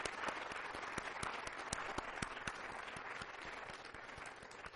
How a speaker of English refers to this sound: Let's have a big round of applause for those people.